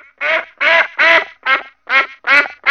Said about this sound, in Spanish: Todo comenzó cuando el científico se percató que el graznido de los patos no produce eco.